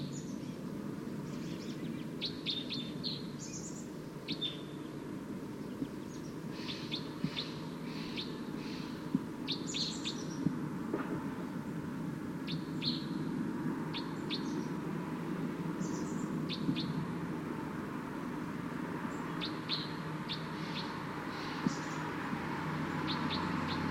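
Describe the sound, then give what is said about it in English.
A wild bird approaching decoys calls loudly while the decoys also sound, repeated short, high-pitched bursts over a steady low hum, scattered irregularly throughout with no talking. “So recording wild bird's calling loud now, as well as the decoys.”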